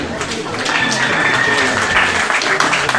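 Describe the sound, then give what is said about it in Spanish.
An audience claps steadily for about three seconds for the municipal president before his declaration, a loud, dense wash of many hands with no pauses, and a murmur of voices mixed into the applause. “Y le cedemos la palabra para que haga esta declaratoria al señor presidente municipal, para quien le pedimos un fuerte aplauso y su atención, por favor.”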